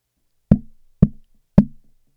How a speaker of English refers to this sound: Wait just a minute. I hear knocking.